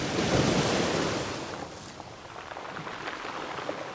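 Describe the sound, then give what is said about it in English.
Ocean surf at Las Cruces washes onto the shore in a broad, hissing rush that swells loudest early on, then recedes into a softer, steady wash with faint wind noise. “With a notebook in hand, Stafford is sitting by the ocean, busy calculating the movements of the waves as if trying to decipher some hidden code.”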